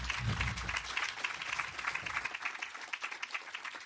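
Steady audience applause, many hands clapping in a dense, crackling wash that holds fairly even and starts thinning slightly toward the end; a low murmur rumbles underneath at first.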